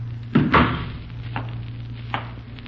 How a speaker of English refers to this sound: Come in. Come on in, son. Close the door.